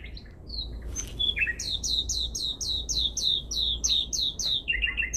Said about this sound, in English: And others, scattered on many trees, gradually joined in the throbbing chorus. Every moment their melody grew in joyousness, and ever spreading, roused the nightingales on still more distant trees to join in the anthem of rapture.